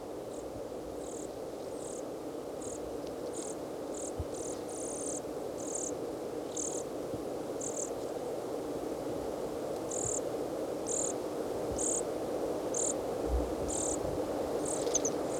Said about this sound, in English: Juvenile is making sort of a buzzy call as it follows the adult around and begs from it.